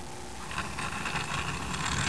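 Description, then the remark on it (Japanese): A child makes a steady, buzzing engine noise like a bus, a continuous droning rumble lasting a couple of seconds at moderate loudness with a faint hiss behind it. “行かない、ブーン。”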